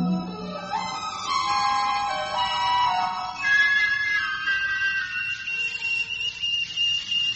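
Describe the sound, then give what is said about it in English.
Satellite radio signal tones: layered electronic whistles that glide and step between pitches, later settling into steady high sustained beeps, moderately loud and continuous with no talking. “Listen to that beautiful music, Jerry.”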